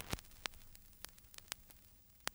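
Faint crackling of a record needle on vinyl, the opening sound of an album: scattered sharp pops and clicks, about five of them at irregular intervals, over a soft steady hiss and low hum. No voices.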